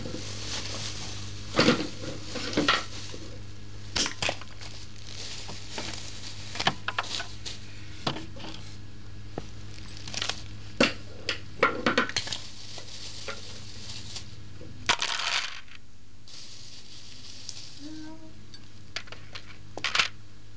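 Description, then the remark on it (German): A wastepaper basket is handled and rummaged through, with continuous crinkly paper rustling broken by irregular clicks and light knocks, and no voices. “Gewaltige Manipulation mit dem Papierkorb.”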